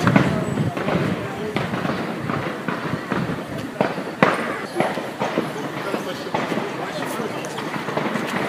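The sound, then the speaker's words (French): Sharp cracks of gunfire go off at irregular intervals, one or two every second or so, over a steady bustle of hurried footsteps of people running and indistinct voices. “et les balles crépitent comme vous l'entendez.”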